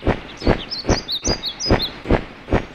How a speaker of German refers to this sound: Das plötzliche laute Schlagen von Flügeln ließ Timmy, Andi und Mutter Natur zum Ausgang gehen.